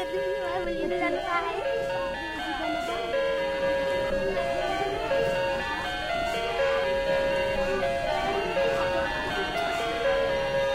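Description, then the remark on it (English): A wall clock in the dining room of a lodge plays a tinkly, electronic-sounding chime melody, bright repeating notes like chiptune video game music, steady for the whole stretch, with a faint murmur of room noise underneath. “In the dining room, there was a clock on the wall with these funny chimes that sounded like something out of a video game.”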